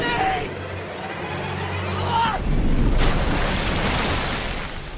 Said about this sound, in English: The wave lifts Cody up and hurls him towards Z, who catches him just as the wave breaks over the shrine rock.